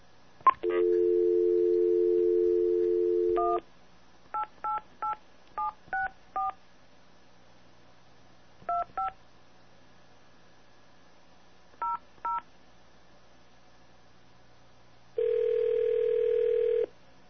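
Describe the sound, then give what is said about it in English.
A steady telephone dial tone, then ten keypad dialing beeps in quick clusters with pauses between, and another steady tone at the end, as someone calls BellSouth to cancel a phone line. The tones are clear, with no voices. “So I've switched over to VoIP, and I'm going to call right now and have Bell South cancel my phone line.”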